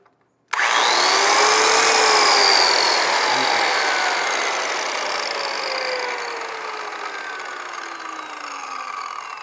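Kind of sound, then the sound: tool, power tool running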